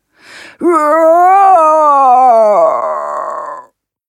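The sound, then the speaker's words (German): A short sharp intake of breath, then a loud, drawn-out roar of fright and pain from a zoo animal biting into a piece of meat, rising, wavering, and trailing off after about three seconds, alone with no talking. “Begeistert schlägt er seine scharfen Zähne rein und brüllt von Schreck und Schmerz laut auf.”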